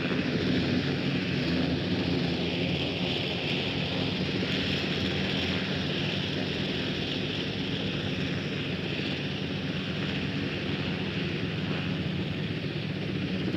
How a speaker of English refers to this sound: And now the president's helicopter starts to move away. It is followed by an army helicopter bearing other members of the Secret Service and of the immediate president's party. It is not yet airborne.